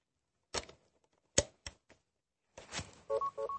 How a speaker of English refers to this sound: You hear that beep? Once you hear that beep, that says that it's connected to this.